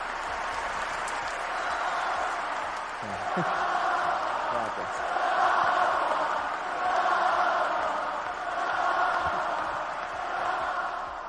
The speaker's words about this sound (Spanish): Se despidió de la afición con un discurso emocionado, recibiendo una gran ovación por parte del público que llenó el Martín Carpena de Málaga.